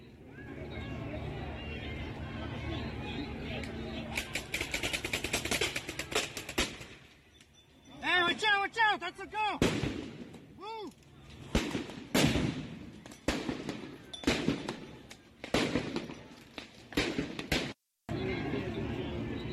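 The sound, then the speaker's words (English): Rapid bursts of firework bangs and crackles go off in quick succession, some with whistling, swooping tones, amid a noisy crowd of shouting voices outdoors, as protesters fire fireworks at ICE officers. “Here we have ICE people being targeted with fireworks by the protesters.”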